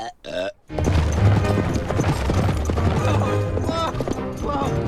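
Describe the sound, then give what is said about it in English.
A sheriff's horse gallops across a farmyard with rapid, steady clattering hoofbeats, loud, for several seconds over a busy, dense background, after a brief high cry at the start. “The sheriff's horse gallops across the farmyard.”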